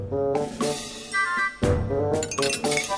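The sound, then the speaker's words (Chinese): Glass objects rattle, clink and crash down as they fall during an earthquake, a busy, continuous clatter with several sharp breaking bursts standing out against the jangling din; no one speaks. “哎，地震嘞！你站在那里，东西掉下来会被砸到啦！”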